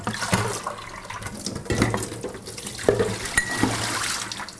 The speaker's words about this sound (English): So you wanna give them a couple really good rinses. Put them in a big bowl full of water, shake them around, drain off the water, do it again. You can't just hold them under the tap and rinse.